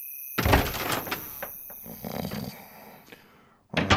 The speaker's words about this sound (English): It was darker inside than out, with no sound to be heard except for Matt's snores.